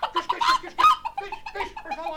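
A hen clucks in a quick, uneven run of squawky calls, fairly loud, with no voices over it, as servants catch it in a palace hall.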